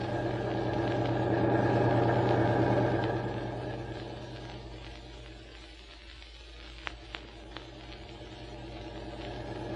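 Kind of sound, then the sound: vehicle, car engine running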